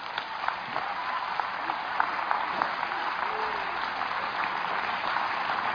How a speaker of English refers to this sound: Clap, clap, clap.